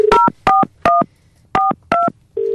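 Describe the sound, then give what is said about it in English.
A telephone number being dialed on a keypad to call a prize winner: five loud, crisp dual-pitched touch-tone beeps in a quick, slightly uneven rhythm, bracketed by a steady single tone at the start and end, with no voices. “Let's call them up and tell them they've got the prize. All righty, I do. I have our first number here.”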